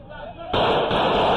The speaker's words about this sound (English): We have a shooting here.